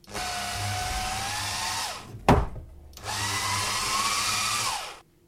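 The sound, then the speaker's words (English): An adjustable blender motor whirs in two steady, high-pitched bursts of about two seconds each, winding down at the end of each run, with a sharp knock in the pause between them. “An adjustable blender as well, this.”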